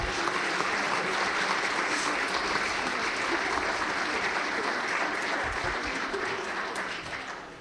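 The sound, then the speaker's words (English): Sustained crowd applause for the teachers, a dense crackle of many hands clapping steadily for several seconds before tapering off slightly at the end. No voices are heard. “Let's give our teachers a round of applause.”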